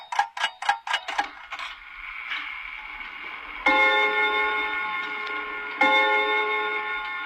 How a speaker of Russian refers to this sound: Наконец-то! Часы гулко пробили 12 раз.